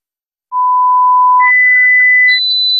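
Three steady electronic tones, the Sonofim beeps in an advertisement for Sonofim from Pharma OTC, rise in pitch one after another, each held about a second with no gap between them, loud and clean with no voices.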